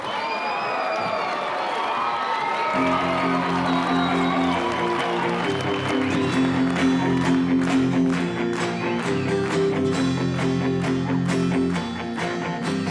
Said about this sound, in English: We have a special guest performing his new song live. Let's hear a big round of applause